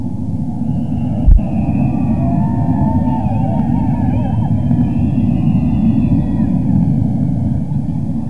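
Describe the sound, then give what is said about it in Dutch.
A metro train passes with a loud, steady low rumble throughout, overlaid by wavering high-pitched whines and squeals from the wheels, and a single sharp thump early on. “Dat was de metro.”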